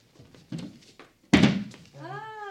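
A few soft knocks and shuffles, then a heavy wooden thunk of a latch or door, followed by a drawn-out creaking hinge as a door swings open.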